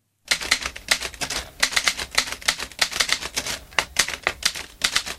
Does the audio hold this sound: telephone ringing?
no